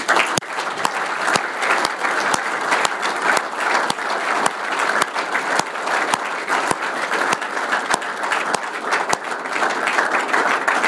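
A sustained round of applause from a sizable crowd, steady dense clapping filling the whole stretch at fairly loud volume, with no speech over it.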